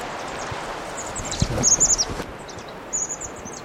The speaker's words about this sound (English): I start recording 1140, Wild Cross Bill here.